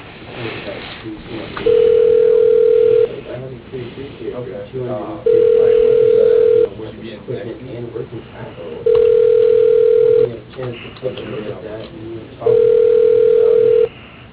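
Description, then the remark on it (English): A telephone ringback tone sounds four times as a follow-up phone call is placed, each a steady mid-pitched hum about a second long, evenly spaced with pauses between, over a muffled, narrow phone-line background of indistinct voices. “I actually was going to follow up on the phone here about what I sent you.”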